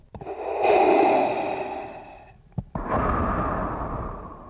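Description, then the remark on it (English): Slow, heavy breathing of a person through a breathing apparatus, recorded and slowed down a little to give it more weight: a long hissing inhale, a brief click, then a long rasping exhale, loud with no voices. “which was me breathing, once brought back to the studio and slowed down a little bit, became the breathing of Darth Vader”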